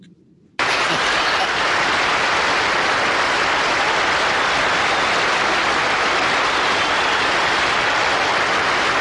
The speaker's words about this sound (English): God, this applause is so crazy. Ladies and gentlemen, real fine right there. That great guy, Mr. Ernest Borgnine.